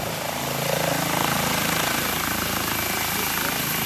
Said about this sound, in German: Ja, und mit Hubschrauberlärm soll diese Folge nun auch enden.